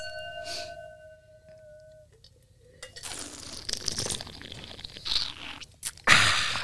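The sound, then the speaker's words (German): A faint ringing tone fades out, then airy slurping sounds of wine being tasted rise and fall for a few seconds, ending in a louder rushing burst. No one speaks. “Wird geschlürft.”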